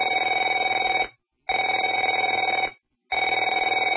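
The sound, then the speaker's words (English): A telephone rings in three long bursts separated by short silences, a steady buzzy trill that is loud and clear, with no voices. “Afraid to answer it?”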